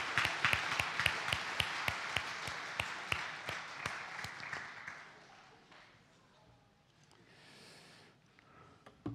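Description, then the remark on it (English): A group claps together for the helpers in a lively burst of applause that rings out loudly for several seconds, then tapers off into quieter room noise with a faint rustle near the end. “Helpers, let's give them a clap.”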